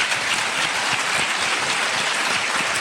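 An audience applauds steadily for a guest, a school canteen cook and cookbook author, a dense, even wash of many hands clapping at a constant loudness with no voices over it.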